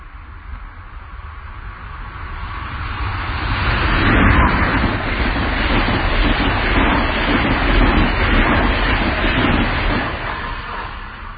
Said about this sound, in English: And coming from the south, and heading towards the north, right now as we sit here on this field, we can see a train in the distance, and it's coming towards us extremely fast, about 115 miles an hour. Close your eyes. It's coming closer.